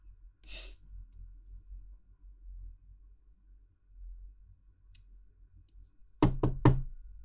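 knocking on a door

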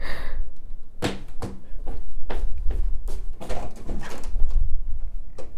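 door being opened

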